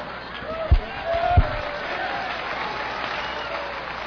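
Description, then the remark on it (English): An audience claps steadily for about four seconds, a dense, even wash of applause, with two dull low thumps standing out near the start. “Don't clap for him.”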